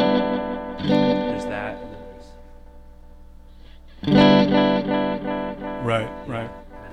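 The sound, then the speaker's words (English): Electric guitar notes ring out through an echo pedal, each strummed chord followed by a train of fading rhythmic repeats that blur together into a washy sustained tail, fairly loud. “The coolest thing, I think, are the repeats. And you can change the intensity of the echo up a bunch.”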